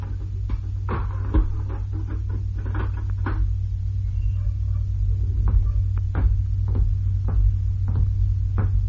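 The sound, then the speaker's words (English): A heavy prison cell door being unbolted and opened: a run of sharp metallic clanks and rattles, some louder than others, over a steady low electrical hum, with no voices. “Open the door of his”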